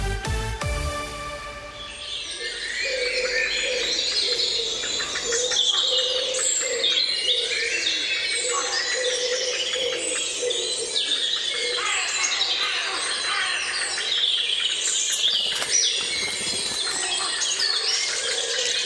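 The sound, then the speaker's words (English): A dense dawn chorus of wild birds, many overlapping chirps, trills and whistles at high pitch filling the air continuously, with a steady lower hum beneath; a brief tonal jingle opens before the birdsong. “Now, it might sound like 6 o'clock in the morning, but it is almost 6 o'clock in the evening, and that is the beautiful sound of the dawn chorus.”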